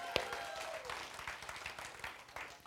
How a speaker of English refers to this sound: Now give God a hand clap right now.